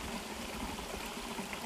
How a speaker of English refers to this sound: I want to record a little clip that I, or share a little clip that I recorded out there in nature. I think it will be a blessing to you. You hear the sound of the brook.